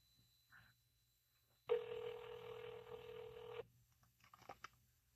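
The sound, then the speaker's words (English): An outgoing call to a caller with a question, ringing over a phone speaker during a Facebook Live broadcast: one steady, buzzy ringback tone lasting about two seconds, followed by quiet and a few faint rustles. “Put him on speaker. It says calling.”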